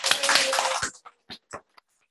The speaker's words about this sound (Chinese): 我们给那个制作的弟兄一个掌声。